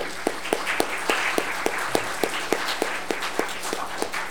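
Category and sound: crowd, audience applauding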